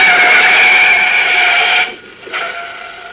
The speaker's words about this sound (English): Olsen were leaving the scene of the recent subway cave-in with a shoebox full of concrete specimens, a large black sedan, throttle open, roared down on the boy reporter from behind.